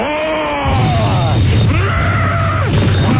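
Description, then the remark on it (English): A voice on the Don and Mike Show gives a monster's birthday roar: one long, loud, gravelly growl that swoops up and down in pitch for about three seconds, with a deep rumble underneath and no words. “How about a birthday roar?”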